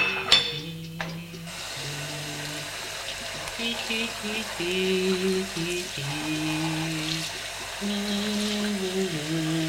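Water runs steadily from a kitchen tap as dishes are washed, a continuous hissing rush, while a voice sings a slow melody over it.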